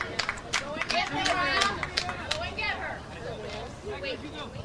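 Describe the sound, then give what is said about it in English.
A crowd at a softball game in pleasant weather cheers and shouts, many voices overlapping in a busy roar, with scattered sharp claps and whoops rising above the noise. “Crowd's really into it.”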